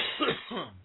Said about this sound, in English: Gesundheit.